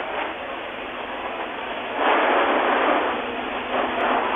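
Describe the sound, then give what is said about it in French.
A big fire roars in a steady, dense rush of noise that swells louder midway, with a sharp pop cutting through near the end. No one speaks. “Parce que là, il pète encore, là. C'est ça qu'on entend, là? Oui, c'est ça.”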